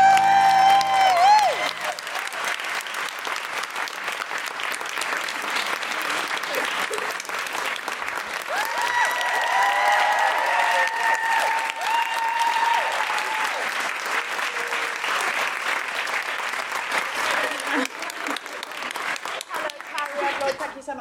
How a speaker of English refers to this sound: That's why I started. I didn't want the applause to die,